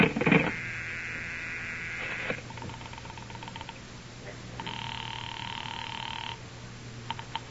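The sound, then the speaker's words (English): A telephone call rings through to the operator to report a phone that is out of order, with a steady electronic tone, a pause with faint clicks, then a second long ring burst; a low hum runs underneath and no one speaks. “I better call the operator.”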